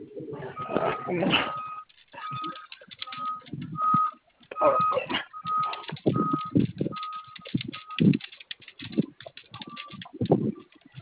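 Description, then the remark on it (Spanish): Irregular bursts of clicking as a password is typed on a computer keyboard, broken by short, steady high-pitched beeps at intervals, with muffled voices murmuring in the background. “¿Tu teclado prende? Sí. A ver, inténtale con la clave, a ver si te cae.”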